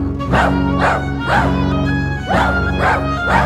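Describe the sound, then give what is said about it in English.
Dogs bark in a rhythmic series of about five or six loud, evenly spaced bursts, relaying an all-dog SOS alert message from Regent's Park, with a steady musical tone humming underneath. “A dog SOS, a dog SOS.”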